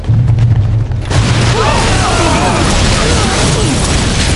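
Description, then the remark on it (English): A loud explosion at the edge of a parking lot booms about a second in, then rolls into a sustained roaring rumble with faint whistling debris sounds trailing through the noise. No one speaks. “The relatively small explosion at the edge of the parking lot shot straight up in the air like a volcanic eruption.”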